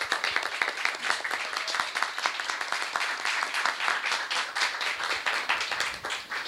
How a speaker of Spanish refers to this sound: Entonces quiero pedir un fuerte aplauso para él.